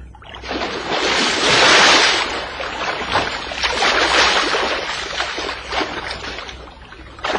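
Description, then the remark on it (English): Seawater churns and surges, with a loud splashing rush early on as a man dives into the sea at night, then steady washing waves that swell and fade. No one speaks. “Oh, so that's why you're going to dive into the sea?”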